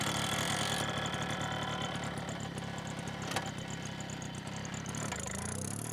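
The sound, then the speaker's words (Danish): A moped engine runs steadily for the whole stretch as the rider sets off toward the town of Mørkøv, a continuous buzzing drone with a brief click midway and a slight change in tone near the end. No one speaks. “sætte mig ud på min knallert. Og så begynde at køre op mod Mørkøv.”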